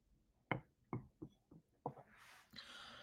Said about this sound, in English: Take a sip of coffee real quick